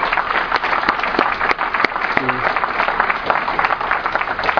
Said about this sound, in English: And I want to congratulate Westchester for the time and the effort and the meetings that they sat through to put this together. I think they deserve a big round of applause for doing this.